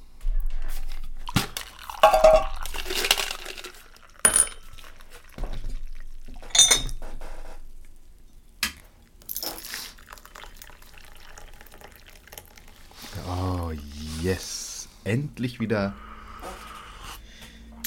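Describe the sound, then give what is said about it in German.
Tea is poured into a glass, a gurgling trickle rising in pitch as it fills, with scattered clinks and handling noises around it. “Ja, also, okay, dann ich würde einfach anfangen mit, dass ich mir eine Tanne, ein Glas Tee, einen Pecher so einkippe”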